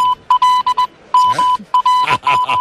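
A steady mid-pitched tone keys on and off in short and long pulses, tapping out Morse code, while a voice talks over the later stretches.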